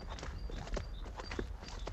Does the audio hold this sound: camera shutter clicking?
no